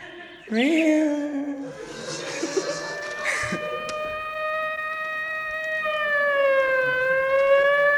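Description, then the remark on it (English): A police siren from several police cars outside a house wails steadily and loudly, its pitch holding high and then sliding slightly lower and back up in a long, drawn-out tone with no voices. “Outside the witch's house were several police cars.”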